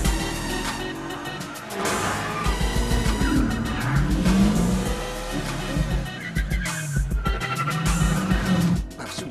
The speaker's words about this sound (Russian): Не тормози, а то проскочим нужный поворот.